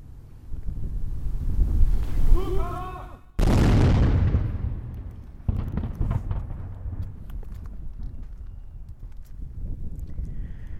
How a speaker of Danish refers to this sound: Kanonslaget, vi hørte til sidst, kom fra batteriet på Sixtus-bastionen, hvor der 2 gange dagligt året rundt om morgen kl. 8 og igen ved solnedgang bliver skudt med løst krudt for at markere, at nu er flaget Dannebrog hejst